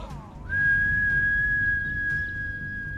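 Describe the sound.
A single soft whistle from the character Gentleman Hunter as he hops off Lavaline's spear. It slides up briefly, then holds one steady, clear pitch for a couple of seconds over a low background rumble, with no talking.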